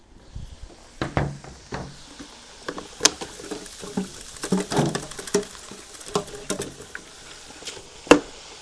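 Fries sizzle in a frying pan in the Netherlands: a steady, bright hiss broken by frequent irregular pops and crackles, with one sharper snap near the end. No one speaks.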